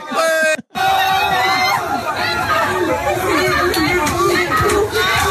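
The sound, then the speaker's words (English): Loud, dense crowd chatter from a party, played from a video in a Mashable article, many overlapping voices laughing and calling out, with a brief cut near the start before the lively babble continues steadily. “Looks like everybody's having fun. This looks like a party bus”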